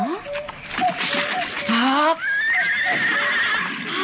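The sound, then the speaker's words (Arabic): A purebred Arabian horse whinnies loudly, a long wavering neigh that rises and falls for several seconds, with some background voices murmuring underneath. “ما شاء الله، سبحان الله، حصان عربي أصيل.”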